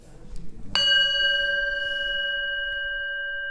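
A single gong strike opens an Alcoholics Anonymous discussion group of men seated in a circle of 14 chairs, ringing out clearly after some quiet murmuring, its bright metallic tones sustaining and slowly fading over several seconds.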